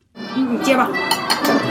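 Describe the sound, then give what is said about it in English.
Busy restaurant clatter in Beijing over a meal of Peking duck: dishes and cutlery clinking in sharp, irregular bursts over a steady murmur of indistinct chatter. “At a busy restaurant in Beijing, over a meal of Peking duck”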